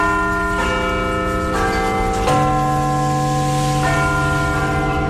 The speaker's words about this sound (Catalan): El rellotge més emblemàtic de Londres estava en obres des de fa... Vaja, des del 2017, i des de fa unes hores ja torna a picar les campanades cada quart d'hora i aleshores en punt.